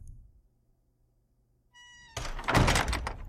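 A door shuts with a heavy thunk, preceded by a brief tonal squeak and followed by a loud, rumbling burst that lingers for about a second before fading.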